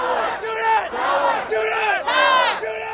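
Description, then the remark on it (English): A loud crowd of protesting students, bused in from Tucson and Flagstaff and mostly dressed in black, protesting proposed cuts to Arizona's public universities, shouts in unison, several rhythmic chanted bursts in quick succession, with raised voices blending into a sustained roar and no single speaker standing out. “Bus after bus from Tucson and Flagstaff pulled up to the protest.”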